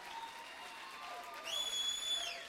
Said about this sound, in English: Clap your hands to him a little bit and shout about it.